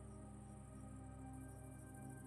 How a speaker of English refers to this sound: And outside the tent, nothing but the sound of crickets and dogs singing into the darkness.